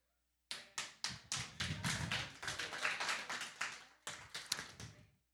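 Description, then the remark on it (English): Rhythmic hand clapping in a steady beat, starting with a few spaced claps, then thickening into a dense, continuous run, pausing briefly and resuming for a few final claps. No one speaks. “That clap needs to come in just a little faster, and man, it starts getting off the rails then.”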